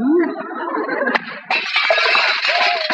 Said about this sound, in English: Boy, somebody slammed the door so hard he broke the glass.